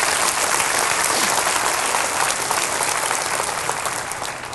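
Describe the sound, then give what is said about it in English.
An audience gives a quick round of applause for a woman after her question, in a dense, steady burst of clapping that stays loud for several seconds, then begins to thin and fade toward the end. No one speaks over it. “Give her a quick round of applause.”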